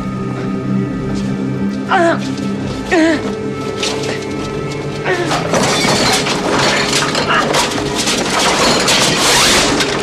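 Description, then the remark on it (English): Objects on a desk, knocked over by someone trying to open a window, crash and shatter in a dense, loud tumble through the second half, following a few short vocal cries and sweeping voice sounds near the start. “He swims through the air, and in an attempt to open his window, smashes everything on his desk.”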